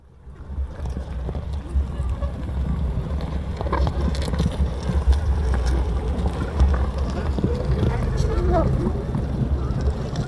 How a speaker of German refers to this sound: Schnattern wie von Gänsen, grillenhaftes Zirpen, Trappeln und Gackern wie im Hühnerhof und manchmal trötet, wie von weit her, ein Nebelhorn dazwischen. So klingt's im Innern eines Bienenstocks, jedenfalls für die Bienen.